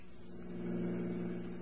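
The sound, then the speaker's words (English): A police squad car's engine hums steadily, its low droning tone swelling slightly midway as the car drives along and pulls up at a car station on Taylor Avenue. No voices are heard. “We'll leave the car here so Dowling won't see it.”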